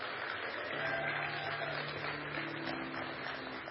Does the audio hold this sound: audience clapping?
yes